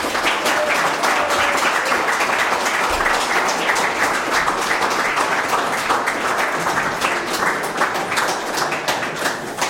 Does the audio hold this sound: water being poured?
no